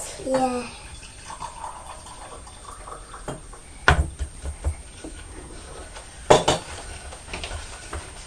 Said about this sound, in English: I'm just going to pour myself a cup of tea to be drinking while I'm doing this.